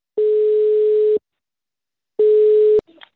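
A steady, low-pitched telephone ringing tone sounds while calling the Kronoberg detention centre (Kronobergshäktet): one long beep, a pause, then a second beep cut short by a click as the line picks up, with faint rustling after.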